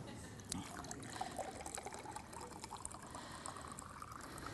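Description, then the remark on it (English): Water pours steadily into a cup, a soft continuous splashing trickle, fairly quiet, running unbroken for several seconds. “When we look at this cup, and I've put water in it.”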